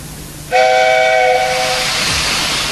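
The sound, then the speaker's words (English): The whistle of Henry, the big green engine on the island of Sodor, bursts in loudly after a short pause, a bright steady multi-toned shriek that gradually fades into a broad rushing hiss of steam, with no voices. “Remember Henry, the big green engine on the island of Sodor?”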